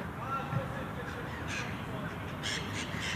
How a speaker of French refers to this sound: On entend aussi des oiseaux. Surtout le matin, il y en a beaucoup le matin aux alentours de 7h, 8h.